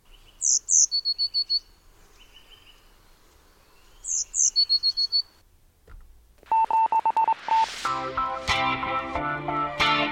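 Two short phrases of high, rapid bird song, played for memorisation practice, ring out, each a quick chirp followed by a fast trill, separated by a pause, before a bright synthetic musical jingle takes over.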